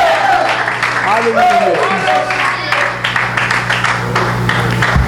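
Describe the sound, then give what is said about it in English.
A crowd claps their hands to the Lord continuously, a dense, crackling patter of many hands lasting throughout, mixed with voices calling out and a steady low hum underneath. “Oh, would you clap your hands to the Lord in este momento, man.”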